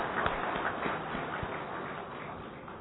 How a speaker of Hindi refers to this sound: और तो एक बार हम पुनः जोरदार तालियों से दादी जी का धन्यवाद दें।